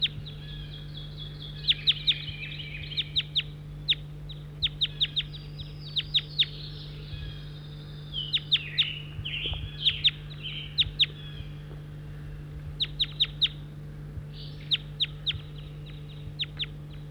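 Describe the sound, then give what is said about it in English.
Several birds call together in bursts of sharp, high chirps and clicks, with overlapping squeaky notes and brief pauses between flurries, over a steady low hum. “Cheater now as the birds are together. 7-1 calling.”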